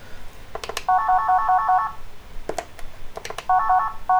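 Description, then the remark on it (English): A simple electronic phone ringtone plays in short bursts of quick, evenly spaced beeping notes, interrupted by sharp clicks like button presses. It is clear, with no talking. “Yeah, most of ringtones are like that.”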